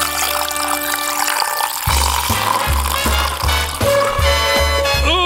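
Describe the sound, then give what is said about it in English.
Beer glugs steadily from a bottle into a glass, rhythmic gurgles under a foamy hiss, the pitch rising as the glass fills. Fairly loud, with no talking. “That's a good sounding pour.”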